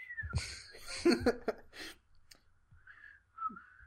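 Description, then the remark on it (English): Someone attempts to whistle casually but mostly produces breathy, airy blowing, with only a few thin, wavering whistle tones breaking through near the start and end. It sounds fairly quiet. “I can't whistle. What are you trying to whistle? Just the nonchalant whistling.”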